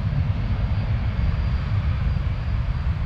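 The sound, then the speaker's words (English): A passenger plane roars low overhead on its landing approach to one of the world's busiest international airports in LA, a loud, steady, rumbling engine drone that fills the whole moment without letting up. “Overhead, a constant parade of landing planes.”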